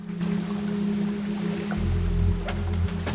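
Water sloshes and splashes softly with a steady rhythm over a low, constant hum, and a brighter splash breaks through near the end, as a woman swims lengths alone in the indoor pool of a near-deserted spa.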